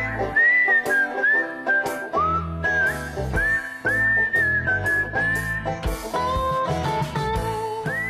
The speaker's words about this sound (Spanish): También en el folk. En el folk gringo se utiliza mucho el silbido. Estamos escuchando aquí ejemplos.